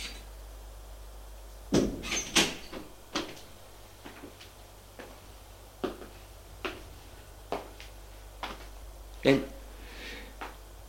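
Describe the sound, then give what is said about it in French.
Sharp, dry knocks on a wooden bedroom door, a quick pair followed by several more scattered, irregular taps over a low steady hum, with no voices. “On frappe à la porte de sa chambre.”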